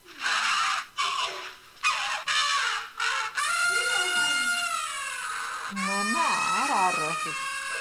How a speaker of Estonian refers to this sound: Tõepoolest, see on nüüd elevandi hääl.